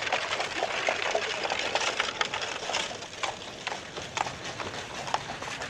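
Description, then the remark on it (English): A black horse, apparently a stallion, followed by a carriage in a procession, its hooves clip-clopping in a steady run of sharp knocks over a constant hiss of outdoor noise, moderately loud throughout. “horse, apparently a stallion, followed by the official Happy Station carriage”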